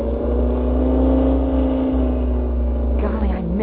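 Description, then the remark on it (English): A loud, steady engine of a Mexican-registered airplane drones continuously with a rich, buzzing tone as it dives in from the south and passes right over the mine, dropping parachutes with crates attached; its pitch wavers and dips slightly near the end. “Something was dropped from the plane.”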